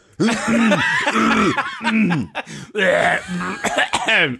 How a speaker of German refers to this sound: Ja, jetzt räusperst du selber, du ….